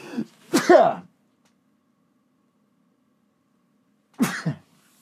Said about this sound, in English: I'm going to sneeze.